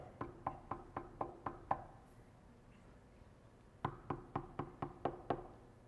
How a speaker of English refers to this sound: I would stay like this, just knocking on the door.